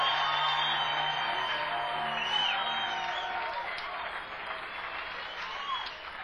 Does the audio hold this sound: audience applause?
yes